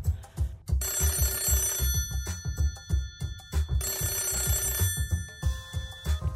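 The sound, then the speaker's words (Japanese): A telephone rings in several sustained bursts with short pauses between them, clear, layered over a steady thumping music beat, as a call is placed to Ninohe City Hall in Japan. “ひとまず二戸市役所に電話をしてみよう。”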